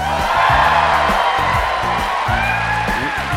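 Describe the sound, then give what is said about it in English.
A large, rowdy crowd cheers and whoops loudly and steadily on stage at the Merle Reskin Theater on the DePaul University campus in Chicago, with overlapping shouts and yells rising above the dense roar of voices, and no other talking on top. “We are on stage in front of a rowdy and large crowd at the Merle Reskin Theater on the campus of DePaul University in Chicago.”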